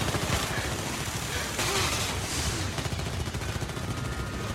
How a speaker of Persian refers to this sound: پوشش بده لابا گزارش خسارت بده چند تا از مامورامون تیر خوردن